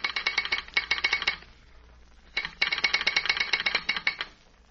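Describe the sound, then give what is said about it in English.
Rapid mechanical clicking in two bursts, a telegraph sounder chattering with an incoming call signal to the station, with a brief pause between them; moderately loud, no voices. “Somebody calling the station. Wait till I answer the signal.”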